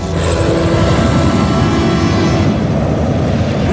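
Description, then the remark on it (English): Loud, steady aircraft engine roar with a dense low-end throb from the Fox 11 news helicopter over Los Angeles during a tornado warning, continuous throughout with no speech. “Coverage now from our Fox 11 chopper.”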